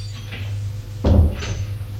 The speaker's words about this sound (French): Domestique a fermé la porte.